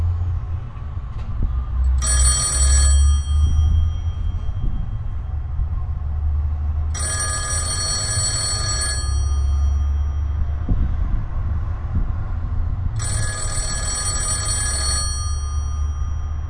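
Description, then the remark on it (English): An old GTE Automatic Electric payphone with skinny little buttons, in Long Beach, California, rings in three long, evenly spaced bursts, bright and metallic, heard over a steady low rumble of traffic or machinery. No one speaks. “I want you to hear the sound of this phone ringing.”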